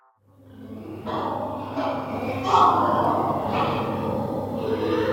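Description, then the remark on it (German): A continuous, overlapping chorus of low grunts and snorts from hundreds of pigs at a pig fattening farm with several barns, heard from a nearby forest, with a steady rumbling undertone and brief louder squeal-like bursts rising out of the mass. “Wir stehen in diesem Wald, wir hören Geräusche von Schweinen aus diesem Betrieb.”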